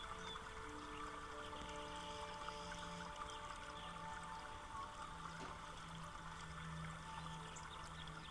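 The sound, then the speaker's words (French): A stream flows steadily and softly, a continuous gentle rush of water with no pauses, accompanied by faint sustained humming tones underneath. “L'eau du ruisseau qui s'écoule.”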